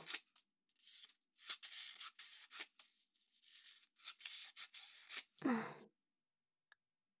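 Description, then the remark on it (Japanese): Origami paper being cut with scissors into strips for paper-ring decorations, a series of crisp snips and slicing strokes in an uneven rhythm, ending with a louder rustle and then near silence. No one speaks. “まずは折り紙をこういう風に切って。”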